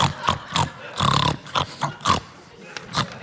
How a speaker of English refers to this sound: You got yourself a pig. A pig who likes to ride shotgun or else he gets car sick, which we found out the hard way.